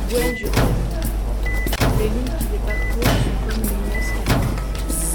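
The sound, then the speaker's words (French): A heavy door, the second door in an inner courtyard, is worked open in the cold with a few dull knocks and scrapes over a steady low mechanical rumble and some faint creaking tones. “Elle est lourde. Il fait froid. Je suis dans la cour intérieure. Deuxième porte.”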